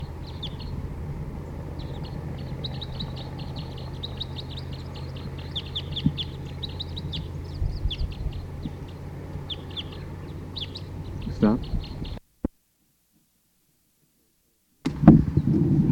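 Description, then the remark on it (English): A dense chorus of many wild birds calling at a site where birds are being caught in a net, many short high chirps overlapping steadily above a low rumble, then an abrupt cut to silence before a brief burst of noise. “Start recording, the birds are starting to call a lot”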